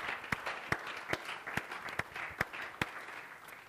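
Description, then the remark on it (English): A church audience clapping their hands in praise of God at a morning service, a dense wash of applause punctuated by sharp, evenly spaced claps keeping a steady beat, moderately loud and without any talking. “Give God a hand clap of praise this morning.”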